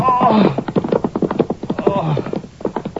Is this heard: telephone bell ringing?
no